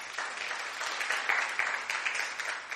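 A crowd at a service at Last Adam Tabernacle applauds steadily, many hands clapping at once in a dense, continuous patter that stays fairly loud throughout with no voices standing out.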